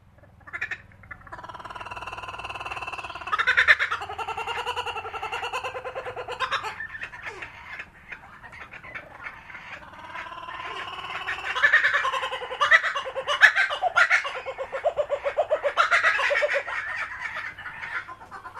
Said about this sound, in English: As you continue down this path, you might be lucky enough to hear our kookaburras. These small white and brown birds, native to Australia, get their nickname Laughing Kookaburra from its laughter-like call. Listen closely for this sound.